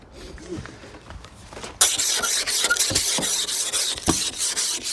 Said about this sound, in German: So schnell ist das Auto freigekratzt tatsächlich. Geht natürlich in Wirklichkeit ein bisschen schneller, aber für euch so, ja, zum Hören. Denn es ist, wie gesagt, sehr kalt.